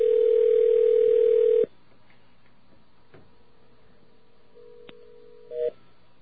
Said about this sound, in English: The other phone's ringing again, so...